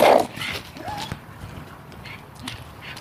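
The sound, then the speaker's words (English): Small dogs bark at an approaching person outdoors on a mild morning of about 50 degrees: one sharp, loud bark right at the start, followed by a few fainter yaps against a quiet background. “Oh, little dogs. I'm very excited by an oncoming person.”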